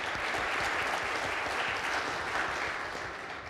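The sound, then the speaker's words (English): A crowd applauds the leaders who prepared the event and gives thanks to God, many hands clapping in a dense, even wash of sound that holds strong throughout and tapers only slightly at the end. “Let's we clap hands for them and give thanks to God.”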